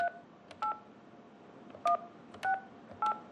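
Five touch-tone beeps as a phone number is dialed to call a contractor, each a short two-pitch electronic tone, spaced unevenly with a longer pause in the middle, over faint background hiss.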